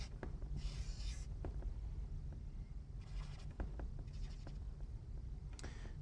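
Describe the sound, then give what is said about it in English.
A pen scratches across paper in short strokes and quick ticks while drawing a lion, starting with the eyes, with brief raspy bursts of drawing separated by pauses, over a steady low background hum. No one speaks. “How to draw a lion. We're going to start with the eyes.”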